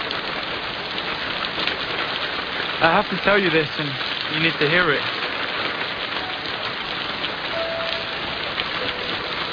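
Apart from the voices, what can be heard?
rain falling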